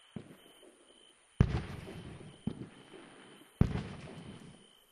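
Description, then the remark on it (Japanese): Fireworks go off in a series of four booming bursts, two much louder than the others, each trailing into a rough, sputtering crackle as the sparks fade. No one speaks. “今のみたいに咲いた後、小さくパラッパラッパラッってなるやつが好きなんですよ。”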